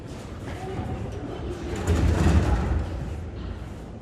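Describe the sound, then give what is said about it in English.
Inside an underground metro station where many people are sheltering, a train's low rumble swells briefly midway through steady echoing ambience, with a faint murmur of people in the background. “Underground metro stations is where many people hide.”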